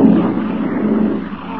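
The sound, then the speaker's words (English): A motorboat engine, started with an ignition key and starter, runs with a loud, steady, throaty rumble that holds evenly and eases slightly toward the end, with no voices over it. “This is the ignition key, and here's the starter. Keep your fingers crossed. Right. Probably needs choking.”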